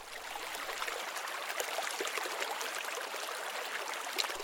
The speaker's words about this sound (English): It's a water feature. The diner built a water feature.